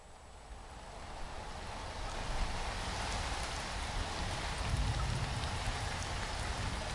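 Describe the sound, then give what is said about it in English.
Steady rain falls continuously outside at night, a dense hiss of drops spread across the whole range with a low rumbling undertone, even in loudness throughout, with no voices. “Why has it always got to be raining and lightning when you forget to leave the window open, right?”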